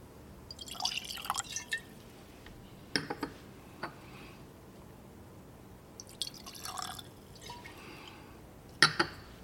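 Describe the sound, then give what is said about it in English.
Liquid from a screw-top bottle of Famous Grouse, a blend, pours into a glass in short, uneven glugs and splashes, with brief pauses between bursts and a final sharp clink near the end. No one speaks. “And it is time for us to do what we do, but because it's a screw top bottle, I'm going to refer to the thing as the pour, which is sort of usually step two.”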